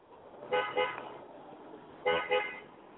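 A car horn honks twice in quick double beeps, then repeats the pair about a second and a half later, moderately loud over a low rumble of street traffic.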